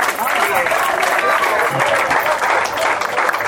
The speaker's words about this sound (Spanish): Bueno, camarada. Un aplauso para camarada.